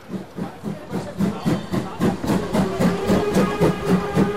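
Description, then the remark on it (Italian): A train rumbles past a station platform with a steady, rhythmic clickety-clack of wheels, fairly loud, a faint hissing whine running beneath the repeated beats. No one speaks. “Permesso, permesso, per il treno! Ma guarda là, sul marciapiede per l'Italia!”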